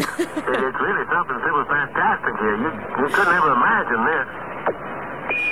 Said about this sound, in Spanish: nos está poniendo el sonido, Andrés, de como de cuando llegaron a la Luna, no es una interferencia